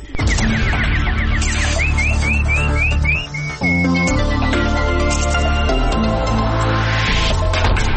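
A quick series of bright, rising chirps repeats in a steady rhythm over a loud, dense musical backing, followed by sustained warbling tones and a final fluttering trill.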